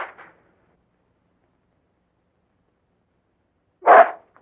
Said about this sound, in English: Drop it, you mutt! Hey, don't you call my dog a mutt? But he's tearing my handkerchief.